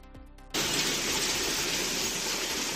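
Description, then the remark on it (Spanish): After a brief quieter moment, a sudden dense roar of heavy rain takes over, steady and loud, with sharp pattering hits of hail striking hard surfaces in streets in Navarra during a rain and hail storm. “La lluvia y el granizo hicieron acto de presencia en Navarra, especialmente intenso en lugares como Estella o Carrascal. Así sonaban sus calles.”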